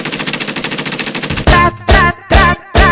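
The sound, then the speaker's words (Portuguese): A machine gun sound effect: a rapid, steady rattle of fire for about a second and a half, followed by four loud, heavy bursts separated by short silences. No one speaks. “Pega a metralhadora.”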